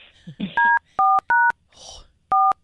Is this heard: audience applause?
no